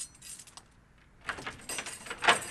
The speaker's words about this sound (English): opens the door to the city's synagogue.